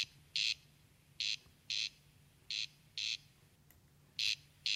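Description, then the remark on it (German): A corncrake's dry, rasping call repeats in paired bursts, crex-crex, with short gaps between pairs, a recording played back on Michael Schödel's phone over a low steady hum. No one speaks. “Dafür zeigt mir Michael Schödel eine Aufnahme des markanten Rufes selbst auf seinem Handy.”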